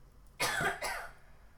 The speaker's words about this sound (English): Ah, cough. Sorry.